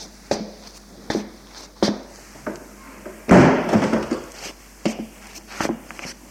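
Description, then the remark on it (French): A door swings shut with a solid thud and brief rattle about midway through, framed by a series of sharp, evenly spaced footsteps or knocks before and after. “Il entre et elle ferme la porte.”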